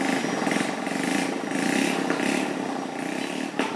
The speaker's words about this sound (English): There's a tea house with rickety plastic chairs, a small shop and a handful of boys zooming along the main road on rusty motorbikes.